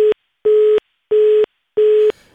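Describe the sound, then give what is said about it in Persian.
A steady telephone busy tone beeps in regular on-off pulses after a phone call with a Radio Azadi reporter in Farah province is cut off, four loud evenly spaced beeps, then stops and leaves faint line noise. No one speaks. “متاسفانه تماس تلفنی برقرار شده ایم البته با احمد شاه فطرت خبرنگار رادیو آزادی در ولایت فرا قطع شد.”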